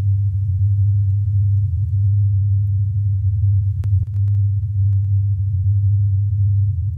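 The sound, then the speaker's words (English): A steady, low droning hum, a simulated approximation of the low-frequency Taos hum of Taos, New Mexico, holds at an even loudness for the full seven seconds, with a couple of faint clicks near the middle and no voices. “This is the hum, or at least an approximation of it.”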